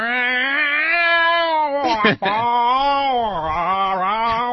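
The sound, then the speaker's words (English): A man's voice imitates an albino Siamese cat in heat, holding a long, drawn-out wavering yowl, broken by a brief catch midway before the wailing swells again. “it sounds kind of like your impression you used to do of that one cat you had in Heat.”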